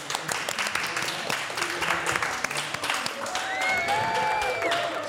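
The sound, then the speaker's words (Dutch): An audience applauds with steady, dense clapping throughout, joined late by a few brief whistles rising over the noise. “Applaus voor de.”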